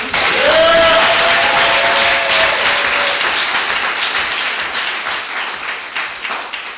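A crowd bursts into loud, sustained applause with cheers and a rising whoop at the start, the clapping gradually thinning and fading toward the end.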